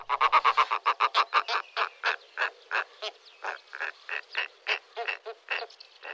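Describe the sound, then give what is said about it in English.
A snowy owl gives a long series of harsh, barking cackles in quick, steady rhythm, loud at first and then slightly softer, with no other sounds around it. “We have a recording of a snowy owl.”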